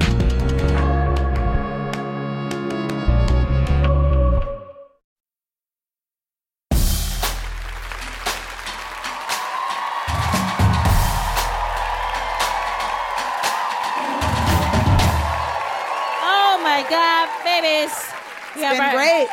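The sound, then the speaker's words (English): A short stretch of music stops, and after a brief pause a comedy show audience breaks into loud, sustained clapping for the last comic of the evening, with scattered whoops and cheers that continues to the end. “We got our last comic of the evening. I know. Clapping.”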